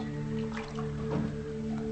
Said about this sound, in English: In the kitchen, she pours water from a tea kettle into a mug.